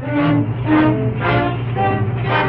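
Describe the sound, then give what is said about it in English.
A heavy truck carrying detectives and a suspect rumbles loudly as it pulls away, a steady low droning engine growl with rhythmic surges roughly every half second and no voices. “The truck pulls away.”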